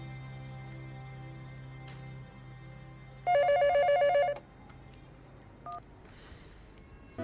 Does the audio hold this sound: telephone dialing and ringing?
yes